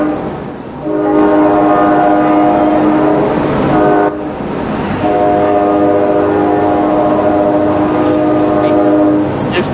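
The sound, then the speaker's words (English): A train rumbles past, its horn blaring in two long, loud sustained blasts separated by a brief pause, over a steady roar of wheels on track. “Oh, sorry, there's a train.”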